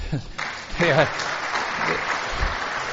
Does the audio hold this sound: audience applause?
yes